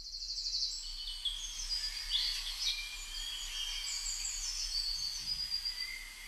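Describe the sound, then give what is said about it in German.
Several birds chirp and twitter continuously in the open air in spring, their bright, overlapping calls layered into a busy outdoor chorus with no one speaking. “Und die Vögel fangen wieder an zu zwitschern. Ich muss euch dieses Geräusch zeigen.”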